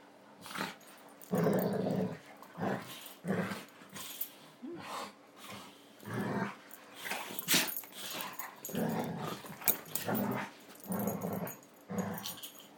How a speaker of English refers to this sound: To hear dogs playing like this. Their relaxation.